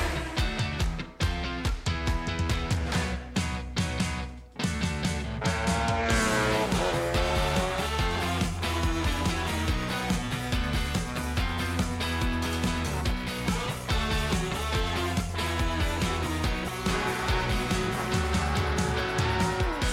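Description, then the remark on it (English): Loud, continuous racing engines rev and roar, with high-pitched tire squeals cutting through the dense mechanical noise for the whole stretch. “Gentlemen, start your engines.”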